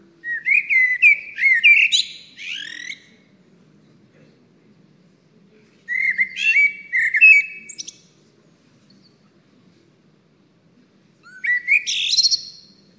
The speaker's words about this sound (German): Und jetzt ein Vogel, den wir alle kennen, die Amsel. Kommt bei uns natürlich vor, in Eurasien und Nordafrika.